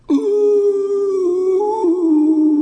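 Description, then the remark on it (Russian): A wolf standing on all four legs howls in one long, loud, sustained cry that holds a steady mid pitch, wavers slightly and dips lower near the end, with no talking. “Волк встал на четыре лапы и завыл.”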